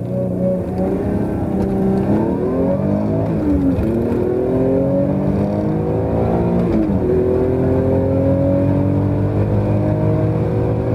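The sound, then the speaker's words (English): An Alfa Romeo car with a 2.2 engine and a manual gearbox revs up repeatedly, its pitch climbing and dropping through several gear changes, loud throughout with no talking. “And that engine sound, even with the 2.2, it sounds so exciting.”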